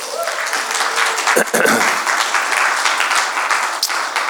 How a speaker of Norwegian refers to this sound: Gi dem en applaus.